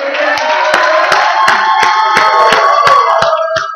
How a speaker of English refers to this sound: I want you right now, to the top of your lungs, I want you to praise God, clap your hands, and let the world know that we, I want the people right by, I want them to hear this. Let them know that God's in control.